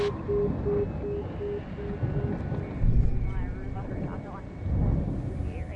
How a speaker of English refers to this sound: Kind of scary to have this helicopter hovering around.